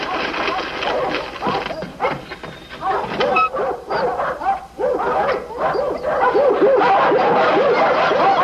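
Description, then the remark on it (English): A thoroughbred dog barks and yips repeatedly amid a busy, lively scene, with voices chattering and bursts of laughter around it, the barking fairly loud throughout. “a very smart dog.”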